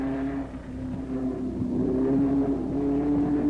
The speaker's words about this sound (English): Riverside continued the road course challenge of left and right turns and brake-burning gear changes for the circle-oriented championship cars.